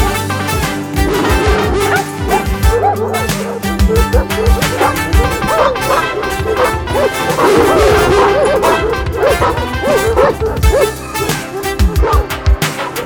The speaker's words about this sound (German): Und dann machen alle drei eine wüste Bellerei.